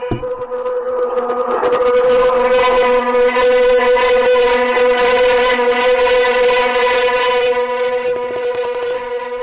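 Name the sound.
wind noise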